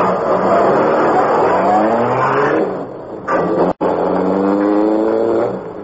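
A car engine roars loudly and revs upward in rising sweeps, accelerating hard, with a brief gear-shift dip before speeding on again, as the car hurries to follow another car.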